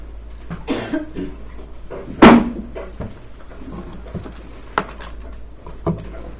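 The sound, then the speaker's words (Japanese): Wet, phlegmy coughing from a preacher with phlegm in the throat during a sermon: a strong, harsh cough near the middle, with a couple of softer coughs and throat sounds scattered before and after, and no talking. “ちょっとあの咳が止まらないといいますか、痰が絡んでゲホゲホやりますけど申し訳ございません。”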